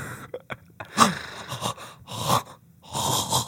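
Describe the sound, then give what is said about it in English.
Heavy, excited breathing with raspy wheezing inhales and exhales, several breaths in a loose rhythm, fairly loud, with no talking. “That's a deep breathing because they're so excited.”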